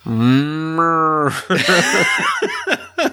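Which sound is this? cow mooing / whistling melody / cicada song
cow mooing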